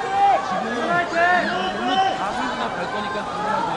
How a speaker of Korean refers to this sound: 드디어 입국장이 술렁이기 시작했고 기다렸던 대표 선수들이 태극기를 들고 모습을 드러냈습니다.